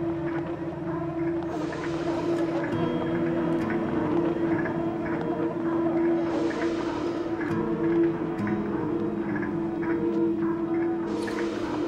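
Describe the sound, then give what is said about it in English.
A steady, rumbling drone with a humming low tone, like a train pulling into a station, broken by three bursts of airy hiss like brakes releasing. No one speaks. “It sounds like a train coming into a station there.”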